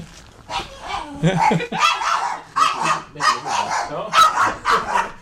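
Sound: small dog barking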